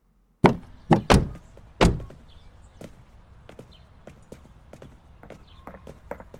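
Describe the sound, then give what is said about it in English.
A few sharp mechanical clunks of a door being locked, followed by a scatter of softer clicks and small rattles against a quiet background. No one speaks. “Did you just lock the door?”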